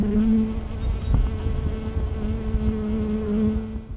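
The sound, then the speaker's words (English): Bees visiting cherry tree blossoms on a sunny 70-degree early spring afternoon buzz in a steady, humming drone that wavers in pitch, fades briefly partway through, then returns as another bee passes, with no voices present. “At a sunny 70 degrees, bees were busy visiting cherry tree blossoms, and a few other early spring insects were also moving.”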